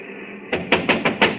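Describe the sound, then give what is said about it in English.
Five brisk knuckle raps on a wooden door in a quick, even rhythm, moderately loud, following a moment of quiet room hum. “First of all, we'll try rapping on the door.”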